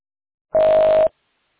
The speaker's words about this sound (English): Press any key. Otherwise, stop talking, press any key on your phone to log in.